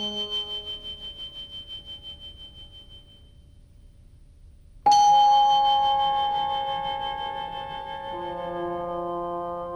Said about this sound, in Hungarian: A beálló csendben nagyon távolról harangszó zeng a nyugodt levegőben. Harangoznak. De a tengerbe görgő kavicsok zöreje elnyomja a túlságosan gyenge csengést.